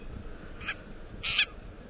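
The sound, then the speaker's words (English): An Akiapolaau Hawaiian honeycreeper calls twice: a brief high note, then a longer, louder burst a half-second later, both standing out against a faint, low background hum. “Or perhaps the seeds hitched a ride on the ancestors of this Akeapola owl we're hearing, caught in a storm and blown to the Hawaiian Islands.”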